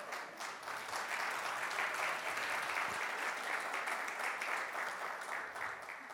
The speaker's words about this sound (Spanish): Por favor, denme un aplauso a don Pepe y a doña Pepa, por favor.